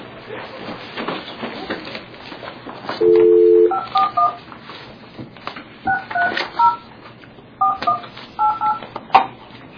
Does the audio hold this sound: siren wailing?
no